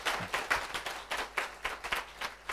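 A short burst of audience applause thanking a teacher after a lecture: a handful of people clapping at a moderate level in a loose, uneven rhythm of sharp crisp claps, with no talking over it.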